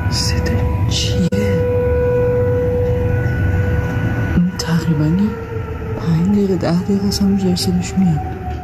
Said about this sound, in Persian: خب، به صدا در آمدن آژیر قرمز در بخشای از تهران در شبکه‌های اجتماعی هم بازتاب گسترده‌ای داشته.